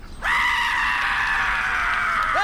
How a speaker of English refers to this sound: Hey, hey, look, check this out. You're not going to believe this. Ready? It's a goat. It screams like a person.